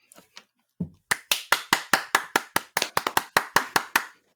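A single person claps hands about fifteen times in a quick, slightly uneven rhythm, each clap sharp and bright, after a few faint soft noises at the start.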